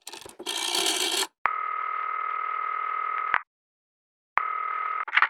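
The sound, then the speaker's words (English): A brief rattling whir of a rotary phone being dialed to call the police, followed by two long, steady buzzing ring tones separated by a pause of silence. No one speaks. “Ugh, rotary phones and acrylic nails do not mix.”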